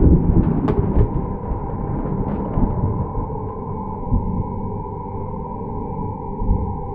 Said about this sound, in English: There was a bright flash of light, followed a moment later by a roll of thunder.